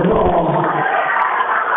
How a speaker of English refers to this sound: The crowd didn't like that call, but it definitely went off the hands